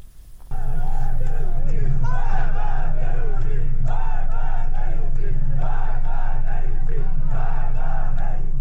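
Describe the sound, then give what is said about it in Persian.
A large protest crowd in Iran chants slogans in unison, including 'death to high prices', 'death to Raisi' and 'death to Khamenei'. The chanting is loud and rhythmic, with repeated bursts of voices rising and falling over a steady roar of many people. “در ویدیوهایی که در شبکه‌های اجتماعی منتشر شده، معترضان از جمله شعار مرگ بر گرانی، مرگ بر رئیسی و مرگ بر خامنه‌ای سر می‌دهند.”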